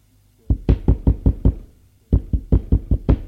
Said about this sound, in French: On frappe à la porte. On frappe à la porte plusieurs fois.